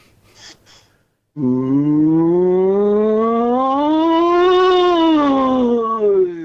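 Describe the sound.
A caller imitates a cow with one long, loud, drawn-out moo that rises slowly in pitch and then falls, preceded by a brief breathy noise and a moment of silence.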